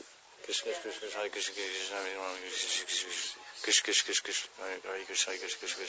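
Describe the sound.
A voice demonstrates hissing, imitating a snake: a drawn-out, breathy hiss, rough and fairly steady with a few louder bursts, running for several seconds with some voiced tone mixed in.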